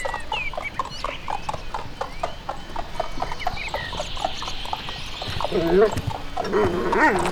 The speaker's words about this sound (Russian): А к нему подъезжает карета? Ну, с двумя лошадками. Ну, не карета, а, скажем, экипаж.